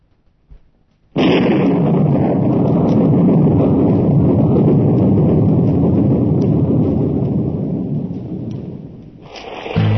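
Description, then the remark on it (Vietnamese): A loud, steady roar of heavy rain pours down almost without pause after a sudden start, briefly easing near the end before surging back; no one speaks. “À, mưa to quá.”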